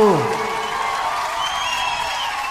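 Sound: audience shouting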